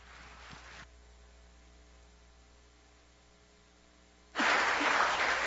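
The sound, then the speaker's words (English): A short patter of audience applause before an evening presentation fades out, leaving a steady electrical hum for a few seconds before a louder burst of clapping breaks in and carries on to the end. “I think that's really wise to get applause before you start.”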